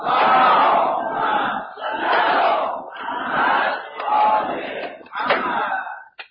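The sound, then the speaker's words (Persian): An audience at a religious talk chants a salawat together in unison when asked by the speaker, loud rhythmic phrases rising and falling in about five surging waves, with no single voice standing out. “یک صلوات بفرست.”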